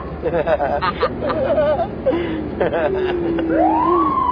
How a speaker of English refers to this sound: Did you turn the siren on?